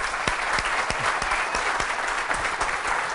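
Steady audience applause fills the whole stretch, a dense wash of many hands clapping at an even, sustained loudness with individual claps popping out here and there.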